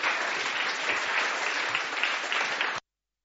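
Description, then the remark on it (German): Steady, dense applause from an audience for people being thanked as they return to their seats, a broad crackling wash of many hands clapping at even loudness for nearly three seconds before cutting off abruptly. “Ich denke, ihr dürft wieder Platz nehmen und kriegt nochmal einen kräftigen Applaus.”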